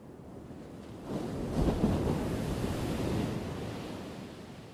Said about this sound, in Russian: Сегодня океан был свинцовым, беспокойным и неприветливым. Он накатывал упругие высокие волны и швырял их на песок. Не успевала отползти одна волна, как уже надвигалась новая.